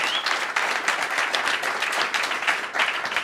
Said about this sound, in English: Are we ready, everybody? So, first of all, just, again, a quick round of applause